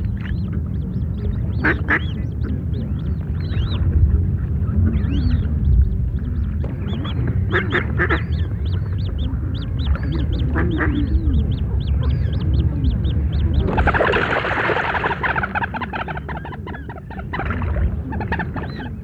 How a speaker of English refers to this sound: There you heard the coot calling in triumph as he'd sent that mallard off on its way.